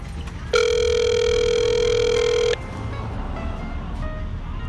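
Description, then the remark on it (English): A single steady electronic phone ringing tone as an outgoing call is placed, a bright buzzy pitch held for about two seconds before cutting off, over a low background rumble. No one speaks. “I'm just gonna keep calling her like she does to me.”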